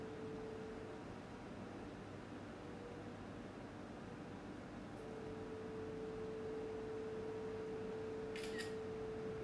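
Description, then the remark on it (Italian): A phone scanner app's edge-detection signal from an iPhone held about 20-30 cm above an open book page, sounding when the camera has found all four edges: a faint, steady electronic tone over constant background hiss, followed near the end by a brief, sharp, high-pitched click. No one speaks. “Quando sentite questo rumore vuol dire che la fotocamera ha visualizzato tutti e quattro i bordi della”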